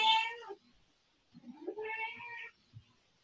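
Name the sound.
cat meowing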